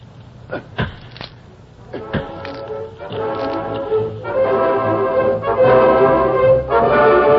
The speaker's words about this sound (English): Ain't there a hammer up there? A mallet or something? No, I don't... Yeah, here's an axe. Use it. Start swinging on that box.